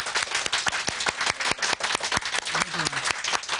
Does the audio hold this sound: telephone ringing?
no